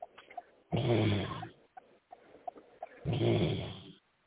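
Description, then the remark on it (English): Two loud, rasping snores roughly two seconds apart, each a rough, buzzing breath lasting close to a second, with faint small noises in the quiet gaps between them. “Whoever's snoring, wake up.”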